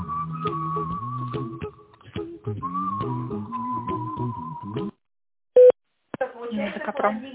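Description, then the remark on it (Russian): A single short, steady telephone keypad tone beeps once, dialing an employee's extension number, in a brief pause between stretches of speech, loud and clean against the silence around it. “Пожалуйста, дождитесь ответа оператора или наберите добавочный номер сотрудника. По окончании набора нажмите решетку.”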